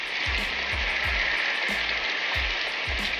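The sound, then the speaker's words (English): Heavy rain pours down in a steady, dense hiss that fills the whole scene, with soft low thumps recurring roughly every half second underneath. No one speaks. “It's raining really hard.”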